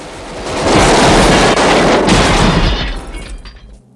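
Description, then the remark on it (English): A loud, dense barrage of machine gun and pump-action shotgun fire from three gunmen shooting into Kersey's car roars without pause for about three seconds, shots blurring into a harsh continuous rattle before tapering off. No voices. “Three gunmen jump out of the van and pepper Kersey's car with bullets from machine guns and a pump-action shotgun.”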